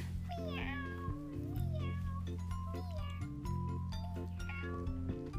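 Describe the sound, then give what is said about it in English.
A cat meows several times in a row, each call bending in pitch, heard over a steady, loud musical backing with sustained low tones. “Then they began to sigh. Meow. Meow. Meow. Meow.”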